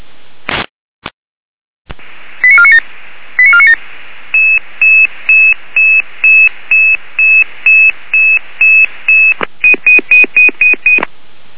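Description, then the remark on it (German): A rapid sequence of electronic alert tones from the Weimarer Land dispatch center summoning a rescue crew, short pitched beeps pulsing in a steady rhythm over a hissy radio channel, loud with a few clicks at the start. “Leitstelle Weimarer Land mit Alarmierung.”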